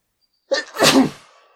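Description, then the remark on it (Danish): A single loud sneeze: a short sharp intake followed by a bursting, breathy explosion that trails off quickly, with no talking around it. “Jeg har ikke mere til på Facebook, men jeg skal nys.”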